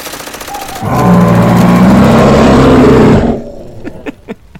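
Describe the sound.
A person imitates a bear, roaring quietly into a microphone with a cupped mouth: a loud, low, growling roar that lasts about two and a half seconds, rough and sustained, then cuts off, leaving a few soft clicks and taps.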